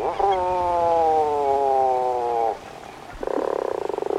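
A puffin gives a long, low groaning call with a steady, buzzy moan, then after a brief pause starts a second, rougher, pulsing call. No voices are heard.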